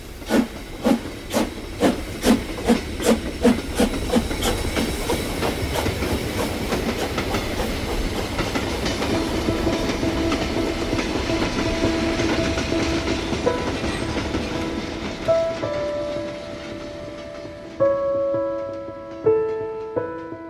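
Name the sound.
moving train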